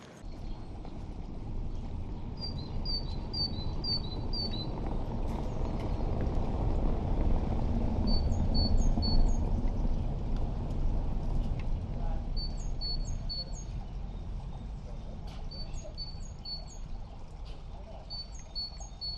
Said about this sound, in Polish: nagrałem bogatkę. Takie fajne nagranie. Nie wiem, jak to słychać, bo się rozpadało. I pewnie stukanie jest w mikrofon, a może nie, nie wiem. Zobaczymy, ładnie bogatka śpiewała. Zmieniała też swoją melodię po drodze.